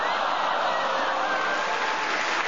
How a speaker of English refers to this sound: No, to tell you, the audience round of applause showed how much they appreciated it.